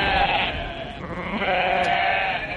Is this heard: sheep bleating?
yes